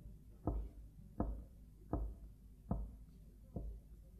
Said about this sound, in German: Es sieht den Hirten nicht, aber er klopft auf dem Stein, denn es geht durch einen schmalen Pass zur nächsten Weide, durch eine enge Schlucht hindurch